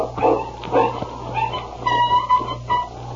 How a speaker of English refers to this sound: But it's a dog. Sounds like he's in trouble.